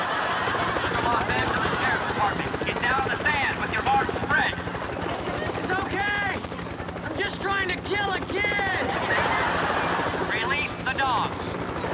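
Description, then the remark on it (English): A helicopter with a spotlight hovers overhead, its rotor beating in a loud, steady, pulsing roar throughout, while voices shout and call out beneath the noise. “Charlie runs from the helicopter's spotlight.”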